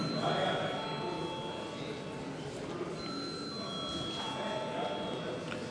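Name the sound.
parliament voting bell ringing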